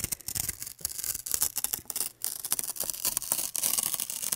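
Crackly paper being slowly torn, a steady stream of fine rustling and ripping with brief pauses, heard alone without any voices; an anti-stress sound installation by the artist Anna Witt, presented as sound art at an art event in Berlin-Mitte.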